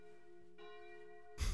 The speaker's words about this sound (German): Bei Manu läuten gerade die Glocken.